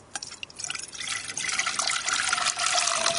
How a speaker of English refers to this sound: OK, so we'll pour that into the saucepan now.